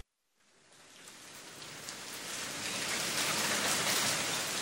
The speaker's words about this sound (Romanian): Plouă de două zile.